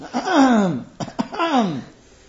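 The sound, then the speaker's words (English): A voice imitates a man's drawn-out throat clearing, likened to a car starting up: two rough, gravelly, descending rasps about a second apart, separated by a couple of quick clicks, fairly loud. “We had a guy who used to, when he'd clear his throat, it would be a 2-minute ordeal, and the whole class would hear him clearing his throat.”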